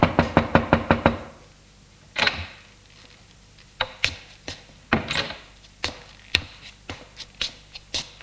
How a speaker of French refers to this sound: Réveillé par l'arrivée de sa femme de ménage qui frappe à la porte de la chambre et entre.